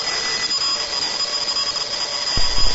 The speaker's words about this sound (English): It's 1 a.m. and Saddam's alarm goes off.